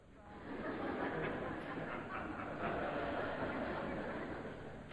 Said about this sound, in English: a train pulls into the station, and Paul coming out of the door as the train stops